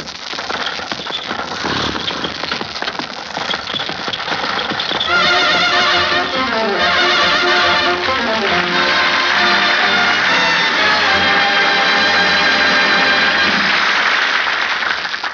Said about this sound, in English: I would like to hear the sound of a fertilizer spreader. Spreading its cargo over the still frozen knolls of my native Michigan fields about this time of the year.